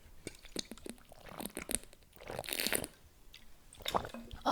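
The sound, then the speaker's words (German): Drinking noises: a few wet slurps and swallows of water, with small clicks and liquid sloshing, fairly quiet and heard alone without any talking. “Nächstes Thema. Vorher Schluck Wasser.”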